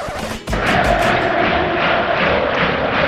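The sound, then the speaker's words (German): A loud, sustained roar from a large stadium crowd of FC Sevilla football fans in Seville, swelling suddenly after a brief dip and then holding steady as a dense wall of cheering. “Okay, der FC Sevilla verliert das Spiel, aber hier jubeln die Fans.”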